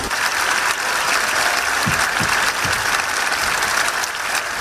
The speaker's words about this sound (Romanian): Și desigur l-au aplaudat pe papă și la final.